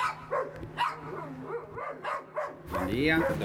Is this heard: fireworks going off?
no